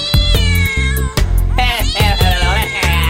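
A cat meows loudly in a string of drawn-out, wavering yowls that rise and fall, set against steady rhythmic thumps like a beat, with no talking.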